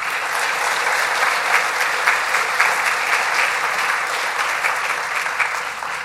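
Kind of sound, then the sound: crowd, audience round of applause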